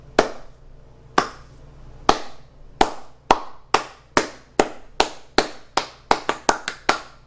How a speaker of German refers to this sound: klatscht in die Hände.